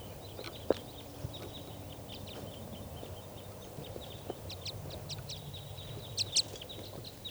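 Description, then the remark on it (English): A small flock of wild birds, two pairs with bright red males, calls from the trees in quick, high chirps and twitters, scattered irregularly over a low steady rumble, with a couple of sharper, louder calls toward the end. “So recording, the wild birds.”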